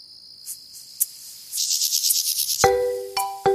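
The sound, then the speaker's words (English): A mole cricket's steady, unbroken churring drones for over a second, then gives way to rapid pulsed buzzing, and ends with a couple of brief, clearer tonal calls. “They're actually looking for another insect, but they heard this noise. They realised it was a mole cricket.”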